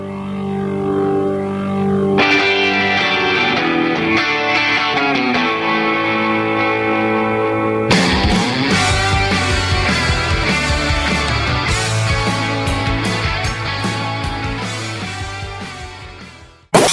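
A loud rock song plays with no talking: it opens with sustained guitar chords, then the full band crashes in around eight seconds with driving drums and gritty, distorted electric guitar.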